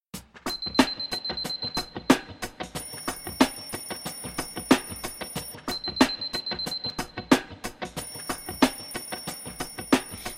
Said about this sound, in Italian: Suona la sveglia, è già mattino.